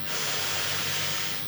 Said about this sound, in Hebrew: יאללה, בואו נעשה שלוש נשימות כאלה יפות מהאף. אז אנחנו מתחילים לקחת שאיפה.